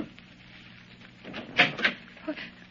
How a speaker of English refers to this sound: I'm anxious to get moving anyhow, so even though it's pretty early, I go down and knock on her stateroom door.